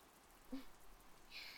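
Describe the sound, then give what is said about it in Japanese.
Soft, steady rain that has just started falling late at night hisses faintly in the background, a continuous wash of patter with a couple of slightly brighter drips standing out, and no voices. “雨降ってきちゃったし、夜も遅いし、お予約も入ってなかったので。”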